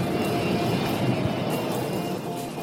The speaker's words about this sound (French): Pourquoi il ne décolle pas ce putain d'avion ? Ah, vous avez remarqué, vous aussi.